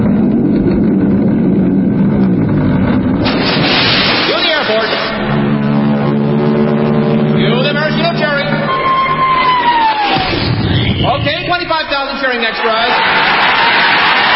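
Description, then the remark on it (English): A loud aircraft flyover roars with droning engine tones as the Royal Canadian Air Force flies overhead towing a 10-ton maraschino cherry. A falling whistle follows as it drops into whipped cream with a huge sloshing splash. A crowd of 25,000 extras cheers and murmurs throughout. “Then the Royal Canadian Air Force will fly overhead towing a 10-ton maraschino cherry, which will be dropped into the whipped cream for the cheering of 25,000 extras.”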